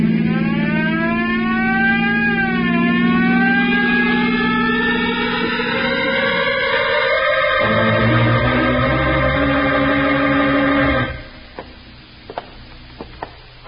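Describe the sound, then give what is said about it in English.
A police car siren wails loudly and steadily, its pitch rising and falling over a rumbling engine, then cuts off abruptly, leaving a few faint clicks in near silence. “You better go a little faster, then. That's a good idea. Use that siren.”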